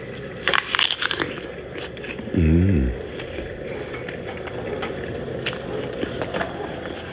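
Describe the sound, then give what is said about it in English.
A crisp crunch as someone bites into an apple, followed by quieter wet chewing crackles and a brief low humming voice sound midway. “Time for a bite of an apple.”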